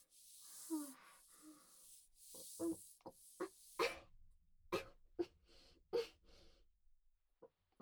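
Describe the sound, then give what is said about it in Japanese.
A run of short, sharp coughs, about ten in quick irregular succession, fairly loud, after a couple of rough breathy bursts, with no talking. “咳が出ちゃうのは仕方ないから。”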